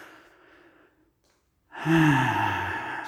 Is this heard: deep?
yes